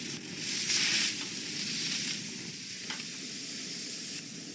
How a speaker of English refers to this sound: The water for that ice comes from a spray system, which needs thawing out with a gas burner before it can be put to work.